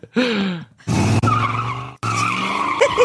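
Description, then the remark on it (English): Car tires skid and squeal in three loud bursts, with high, wavering tones riding over a rough engine roar and brief gaps between each screech. “Is that a new car?”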